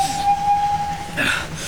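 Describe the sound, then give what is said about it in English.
An approaching train sounds a thin steady whistle tone held for about a second over a low rumbling wash of noise, with no voices. “There's a train coming.”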